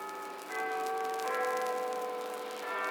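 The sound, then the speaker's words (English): Cathedral bells ring out in overlapping, sustained metallic tones, with fresh strikes around half a second and again near the end layering bright harmonic hum over the lingering resonance. “Old Spider's senses ring a-tingle in a way like those bells. The bells.”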